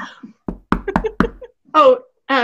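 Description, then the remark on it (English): Four sharp, fairly loud knocks rap on a door in quick succession, followed by a couple of short vocal sounds from a voice. “Excuse me, there's someone at my door now.”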